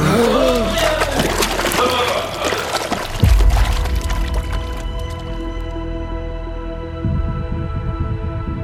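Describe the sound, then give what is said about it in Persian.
Water splashes and sloshes for several seconds as people go underwater, with a heavy plunge midway, then the sound turns muffled and steady as a low, humming drone takes over. “باید مواظب باشیم، نفست رو حفظ کنیم. سیف باید بریم زیر آب.”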